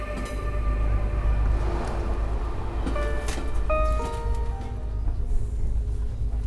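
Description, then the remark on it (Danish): An Intercity passenger train bound for Funen and Jutland in Denmark rolls steadily along the rails, its deep continuous rumble filling the space, with faint tonal whines and squeals rising and fading above the drone. No one speaks. “Velkommen i Intercity-toget mod Fyn og Jylland.”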